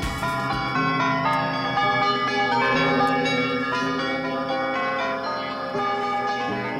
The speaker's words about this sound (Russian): Ну вот с такой колокольной шутки мы решили начать сегодняшнюю программу, потому что разговор у нас сегодня пойдет о колокольных звонах.